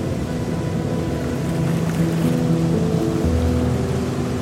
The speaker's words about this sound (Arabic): قالت لي كان في واحد ما كان يقدر يسمع، فكان يروح كل يوم على الشاطئ يحاول يسمع صوت البحر، كل يوم كل يوم كل يوم لغاية ما قدر يسمع صوت البحر.